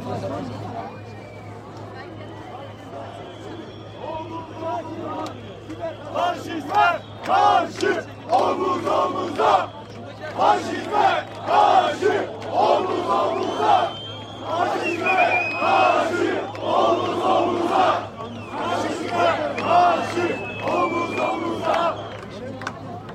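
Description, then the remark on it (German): A crowd of a few thousand people filling a square roars in a dense wall of voices, with loud rhythmic surges like chanted shouts rising and falling over a steady low hum. “Und guckt auf den Platz, also hier sind ein paar tausend Leute, würde ich sagen. Es ist aber schwer zu sagen. Also, aber es ist ziemlich voll.”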